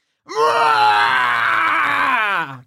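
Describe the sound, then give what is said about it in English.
A player voices the character Cribbit's loud, drawn-out pained scream, holding one strained cry for about two seconds before it sags in pitch and cuts off, with no talking. “Someone hears Cribbit's scream.”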